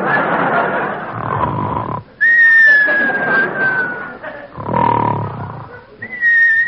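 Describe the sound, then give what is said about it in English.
Raspy, snore-like breaths alternate with long, steady high whistles from a sleeping man, the pattern repeating twice. Both are loud, with no talking. “Now come the whistles.”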